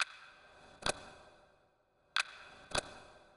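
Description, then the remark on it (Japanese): A clock ticks quietly and alone, four crisp clicks arriving in two loose pairs, each leaving a brief metallic ring before the next. “時計の音が一つするたびに、あなたの身長は1センチずつ縮んでいく。”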